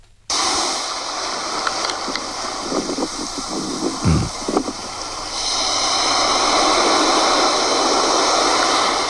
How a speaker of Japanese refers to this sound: これが新潟県の海の音かと思ったらですね、茅ヶ崎の海。 行ってないの、この子は。どっから拾ってきたんだ、この。 いや、茅ヶ崎の海で撮った動画を送ってくれました。